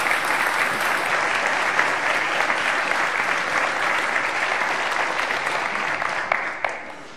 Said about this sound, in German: Ich finde, die haben einen Applaus verdient. Lass uns das mal machen.